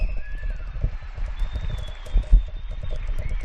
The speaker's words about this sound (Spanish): Se escucha seguro de fondo este aplauso, gritos de viva España y gritos de ánimo